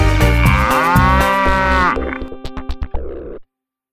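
A cow lets out a loud moo, a long droning bellow that breaks into a few short grunting pulses before stopping. No one speaks.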